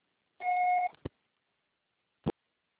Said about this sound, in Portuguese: Grave seu recado. Sua fala será tarifada após o sinal.